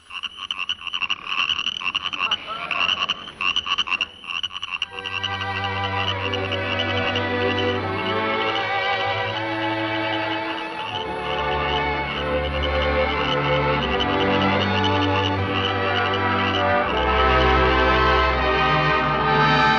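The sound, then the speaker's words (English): A dense, continuous chorus of croaking frogs fills the scene, loud, with a thin steady high-pitched chirring of crickets running underneath. No one speaks. “Yes, sir, we'd really get a big bang out of hearing some good old frogs and crickets.”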